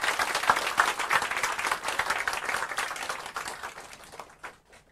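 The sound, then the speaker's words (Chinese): Audience applause welcoming a speaker to a Buddhist lecture, many hands clapping in a dense, steady patter that holds for several seconds and then fades out, with no one speaking over it. “立即进入今天的讲座，请以掌声欢迎”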